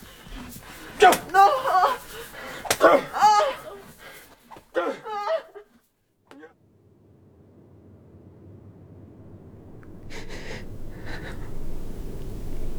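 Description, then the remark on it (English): Several sharp whip strokes crack out in quick succession on a boy's backside, each met by anguished cries and yelps from the boy, before everything fades into a low, steady background rumble. “Get your breeks down and I'll lip you with my whip.”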